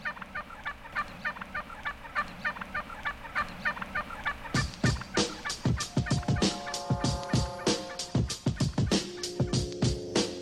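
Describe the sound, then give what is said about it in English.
A flock of wild turkeys in Alameda County gobbling in rapid, overlapping bursts, with a steady chorus of clucks at first that swells into loud, repeated gobbles from several birds. “And there's something else that might keep wild turkeys and humans from bothering each other.”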